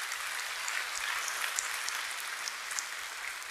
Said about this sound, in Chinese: 我们给上帝一个最大的掌声。